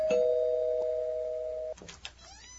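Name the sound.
doorbell ringing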